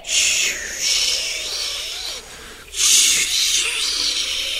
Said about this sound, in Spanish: Pero mientras mayor se hacía el viento, tanto que parecía rugir como león, más apretaba el hombre su abrigo, y más, tanto que el viento se dio por vencido.